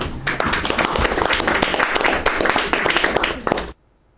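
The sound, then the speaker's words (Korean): A crowd applauds with dense, steady clapping for about three and a half seconds, loud and continuous, then it cuts off abruptly into silence. “박수로.”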